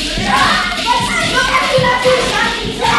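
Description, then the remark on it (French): Children at play in the street during a New Year celebration, their high voices and shouts overlapping in a lively, continuous clamor, with street ambience underneath. “Tiens, attention, il y a des enfants qui jouent là.”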